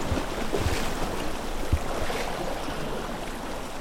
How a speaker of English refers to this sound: But when I see how children enjoy playing at the sea organ, that makes me very happy.